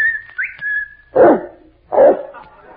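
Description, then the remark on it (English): A person gives a sustained, high whistle with a quick upward flick near the start to call the dog Kelowna, and a dog answers with two loud barks. No one speaks. “I'll whistle for Kelowna.”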